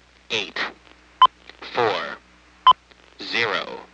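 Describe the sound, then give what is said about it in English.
Two short, sharp electronic beeps from an automated phone system, recorded in 1974, each a steady mid-pitched tone prompting the caller to say a four-digit machine type one digit at a time, sound between stretches of a voice speaking, about a second and a half apart. “Please say your four-digit machine type, one digit at a time, following each beep.”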